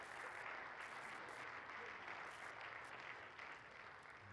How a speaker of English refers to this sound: And here he is today, our youth pastor and getting ordained. And you want to know why? Yeah, go ahead, clap.